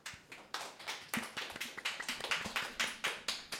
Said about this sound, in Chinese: 那我们掌声欢迎他们。